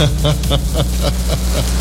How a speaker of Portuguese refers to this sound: Esse barulho é os carros aqui na Barão Cotegipe. Tá pior do que a BR.